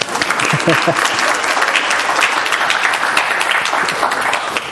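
A sustained round of applause from a crowd, dense and steady with many overlapping claps holding at an even, fairly loud level throughout.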